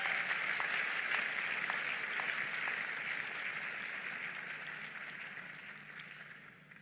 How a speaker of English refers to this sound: One more time, for God's good hand upon the graduates today and upon the university, help me give the Lord another big hand of applause.